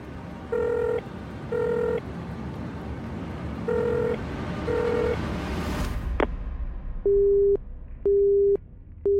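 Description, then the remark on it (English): A phone call rings out in paired tones over a noisy line, then someone on the other end manually disconnects it with a sharp click, and a steady, repeating busy-signal beep follows. “Whoever that is has manually disconnected the call.”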